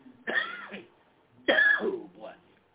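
coughing and throat clearing

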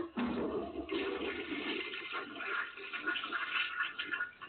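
toilet flushing

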